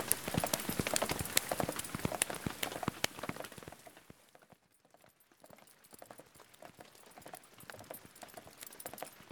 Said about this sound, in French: Il commence à pleuvoir beaucoup plus. Il faut qu'on se trouve un abri.